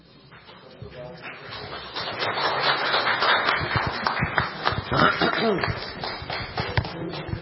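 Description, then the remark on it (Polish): An audience applauds a commander and his unit after their presentation to local councillors and the wójt: a dense patter of many hands clapping that swells after the first second and continues steadily to the end, with some voices mixed in. “Panie komendancie, myślę, że te oklaski świadczą o jakości waszej pracy.”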